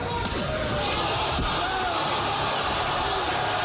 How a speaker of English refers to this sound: Sounds like somebody else getting knocked out. That's a 220-pound man slapping a 260-pound man. Yeah, the 260-pound man goes to the ground.